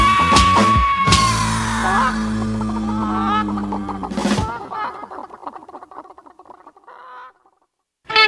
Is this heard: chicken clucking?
yes